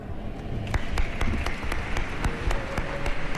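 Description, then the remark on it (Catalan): An audience applauds the words of Bishop Sergi Gordo at the close of a Sunday Mass, many hands clapping in a dense, steady wash with sharper individual claps cutting through, holding at an even level for the whole stretch with no one speaking. “Ressonen els aplaudiments per les paraules del bisbe Sergi Gordo, aquest comiat, aquesta invitació de passar de la missa a la mesa, que ha estat molt bé.”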